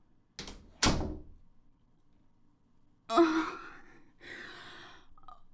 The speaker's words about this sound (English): And shut the door behind you.